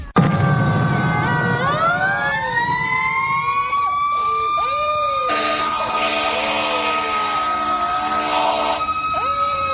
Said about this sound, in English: Fire trucks raced to the scene of a fire incident where a tanker just exploded while discharging petrol into underground tanks, and there is chaos and confusion as people and passers-by scamper